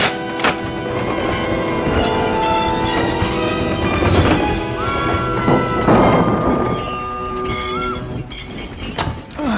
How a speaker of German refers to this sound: Was für ein Lärm. Und warum hat der Zug so abrupt auf freier Strecke gebremst? Stecken wir in einem Schneerutsch fest?